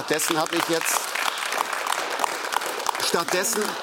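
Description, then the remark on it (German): An audience applauds steadily, a dense wash of clapping that carries on throughout, while a man's voice speaks over it at the start and again near the end. “hier das Publikum erlebe, dass es applaudiert, wo ich gerade mein Staatsamt aufgegeben habe für meine Überzeugungen.”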